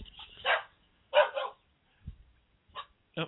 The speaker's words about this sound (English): So, those were dogs.